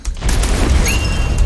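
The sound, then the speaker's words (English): Deep cannon booms rumble continuously, loud, with a sustained low-end roar and a faint high whistling tone rising partway through: cannon fire in a video game. “Cannons.”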